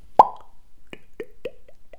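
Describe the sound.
A voice imitates a champagne cork popping with one loud, sharp mouth pop, followed by a quick series of softer wet clicks and plops, with no talking.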